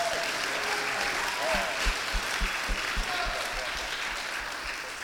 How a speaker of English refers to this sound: We, yeah, clap for him. He's awesome.